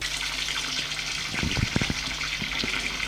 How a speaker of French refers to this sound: Ensuite, il se déshabille. Se douche avec le savon.